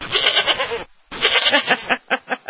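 A goat bleats loudly in two long, wavering cries separated by a brief pause, the second trailing off into a few quick, stuttering bursts.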